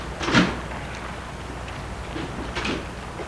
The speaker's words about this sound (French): Ils se font mener devant l'hôpital Saint-Luc qui se trouve sur les quais du Rhône. Porte de voiture.